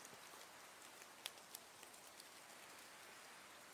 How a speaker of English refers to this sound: I didn't know it was going to rain tonight. I didn't bring an umbrella with me either. Oh, you got one? Look at you being all prepared. Did you have the umbrella on you in case it rains like this?